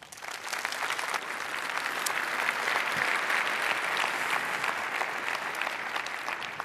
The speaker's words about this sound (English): Please welcome her with a lot of applause.